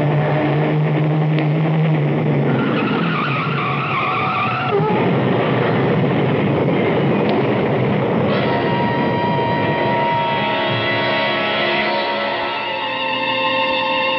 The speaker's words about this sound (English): Look out, Sam. A truck. Turn the wheel. Go off the road.